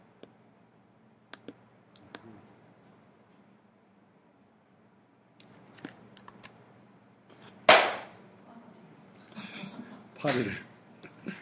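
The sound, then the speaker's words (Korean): A single sharp, loud smack of a fly being swatted cuts through quiet background, preceded by a few light ticks and followed by brief muffled voice sounds. “파리를 제가 처단을 했어요.”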